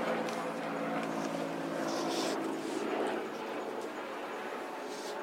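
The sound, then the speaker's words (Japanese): A helicopter drones overhead, its steady, rumbling rotor and engine noise filling the background and easing off slightly toward the end. “いや大抵ね事故があった時にヘリコプター飛ぶんだけど”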